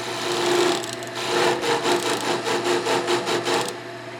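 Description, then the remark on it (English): Rhythmic rasping strokes of a power tool working through wood in a workshop where a class of adults without sight is using power tools; a steady back-and-forth cutting rhythm that repeats quickly for a few seconds before trailing off, with no voices. “Upstairs above the gallery, there's a whole class of adults without sight using power tools.”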